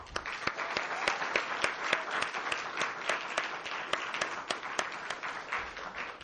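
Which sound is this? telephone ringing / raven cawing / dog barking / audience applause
audience applause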